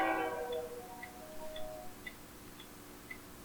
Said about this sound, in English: How can there be another fucking train? We just had a fucking train.